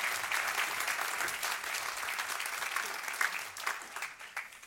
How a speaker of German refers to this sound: Gib mir nochmal Applaus.